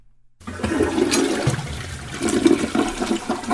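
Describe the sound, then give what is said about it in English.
A toilet flushes loudly, a rushing, gurgling surge of water that starts abruptly after a brief silence and churns steadily for a few seconds. “Let's hit the portal potty, please. We got a big one here to flush.”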